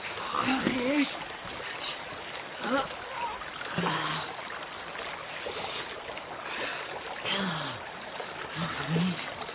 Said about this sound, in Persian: گوش کن. چیه؟ گرگه؟ نه گوش کن، رودخونه هست. همین رودخونه هست.